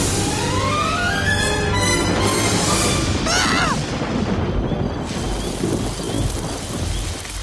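thunder

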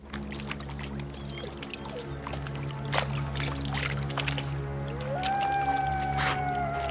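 wolf pack howling

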